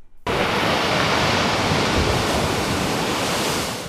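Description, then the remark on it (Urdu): Steady roar of sea surf washing onto the shore at Yalta, a resort on the sea coast of Crimea, broad and continuous, starting abruptly after a brief quiet moment and holding loud with no voices. “Yalta Crimea کے سمندری ساحل کے ساتھ ایک تفریحی مقام ہے جو روسی تاتاریوں کے لیے کھیل کا ایک میدان ہے.”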